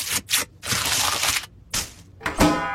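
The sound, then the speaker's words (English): A Cadbury Cream Egg is cracked open like an egg: a few bursts of crinkly, crunching foil and shell, then a sharper snap near the end, with no voices. “If you eat yours by cracking it open like an egg, that means you're a bit punchy.”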